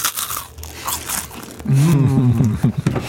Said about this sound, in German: Tja, ich habe jetzt so eine, Salzstange? Eine Salzstange, und ich habe jetzt dieses Chutney und ja, jetzt muss man schon mal reinbeißen.